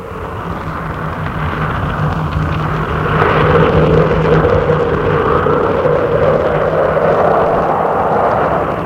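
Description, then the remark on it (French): A loud, steady rush of wind fills a room, a dense roaring whoosh that swells stronger partway through and keeps blowing without pause. No one speaks. “Tout à coup, un vent envahit la pièce.”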